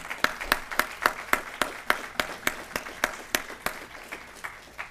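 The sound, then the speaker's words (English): A round of applause thanking everybody who participated, with sharp, evenly spaced claps landing in a steady rhythm over a softer wash of scattered clapping, easing off slightly toward the end. No one speaks. “Let's just give them a round of applause for that, all right?”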